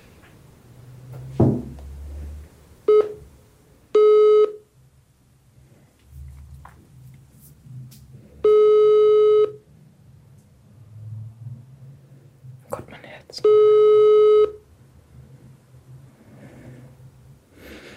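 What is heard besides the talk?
phone call ringing tone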